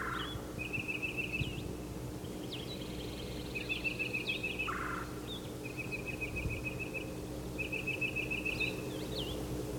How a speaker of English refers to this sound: Okay, it's yellow, yellow calling. He's getting an answer. He's pumping his tail while he calls. There are two other titmice in the same tree.